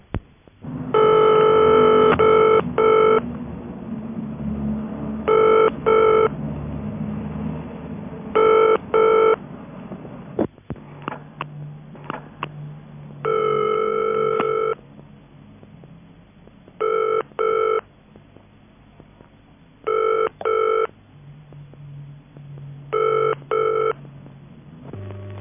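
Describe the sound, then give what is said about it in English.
A telephone ringing tone begins with an immediate short burst of ringing, then continues in a regular cadence of paired rings separated by pauses, heard clearly over a low background hum on the line. “there's an immediate burst of ringing, followed by ringing in the conventional cadence”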